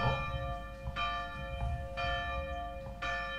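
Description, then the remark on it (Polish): A church bell tolls steadily at 12 o'clock for the Angelus, striking about once per second, each ringing stroke overlapping the long humming decay of the last, with no voices present. “No i widzicie, bije dzwon i co to znaczy?”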